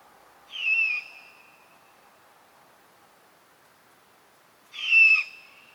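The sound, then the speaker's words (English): Two loud, raspy screeches from a great horned owl chick begging, each about half a second long and spaced several seconds apart, over a faint steady hiss. “The chicks and fledglings make a variety of sounds, but the begging call is loud and distinct. It's a single-syllable, raspy screech.”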